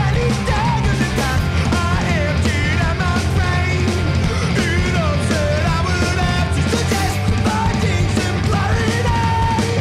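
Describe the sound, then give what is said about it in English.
A singer yells hoarsely over loud, driving rock music, the strained vocal rising and falling in rough bursts above dense guitars and drums for the whole stretch. “On a superb song such as …, he nearly goes hoarse, yelling about finding his own voice”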